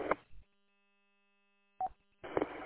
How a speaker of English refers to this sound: I don't know what it is, but some little artifact that the repeater's generating, it's not static or noise, it's just actually some sort of digital burst or something it periodically puts out.